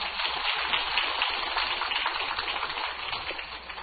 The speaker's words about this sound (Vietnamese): Thầy vừa trao truyền cho chúng ta một bài pháp thật là hay. Bài pháp rất có ý nghĩa. Chúng tôi xin quý vị một tràng pháo tay để cảm tạ Thầy.